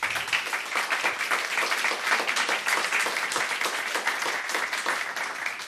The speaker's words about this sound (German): Bei Radio 1, live aus dem Gorki-Theater, zu Gast der Aktionskünstler Philipp Ruch. Wir reden über die Flüchtlingskrise und wie Sie an dem Applaus eben schon gemerkt haben, hat er eben was Kluges gesagt